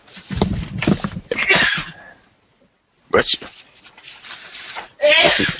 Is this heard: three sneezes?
yes